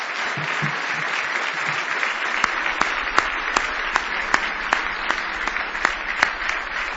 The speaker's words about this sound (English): Well, we certainly appreciate all of our singing this morning, don't we? It was just wonderful. I believe you could give them all one more huge hand clap.